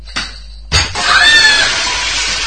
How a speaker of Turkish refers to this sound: Eyvah, cam kırıldı. Lütfen ortalığı toplayın. Nasıl şuttu hocam? Hocam mükemmel şuttu ha, camı dağıttık ya. Camı dağıttım hocam.